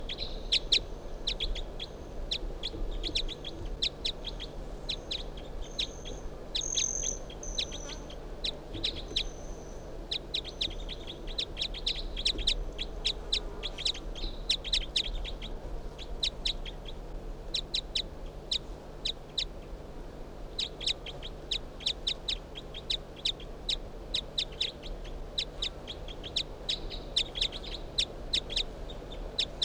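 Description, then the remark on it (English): A bird, numbered 361, calls in response to bird 362 in rapid runs of sharp, high chirps, pausing briefly midway before resuming, over a steady low background rumble. No one speaks. “361 in response to bird 362, who I just brought out here.”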